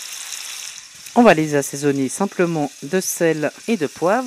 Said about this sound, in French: Il faut qu'elle soit vraiment bien bien chaude. Alors là, ça grésille, ça veut dire que c'est bien chaud. Et donc on fait revenir très rapidement ces filets de cerf.